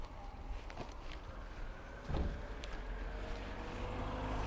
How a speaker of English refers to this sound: Might hear a difference in the audio now. The ambient sound of outdoors.